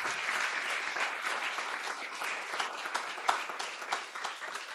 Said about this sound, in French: Donc déjà, j'aimerais qu'on applaudisse bien fort l'ensemble de nos invités.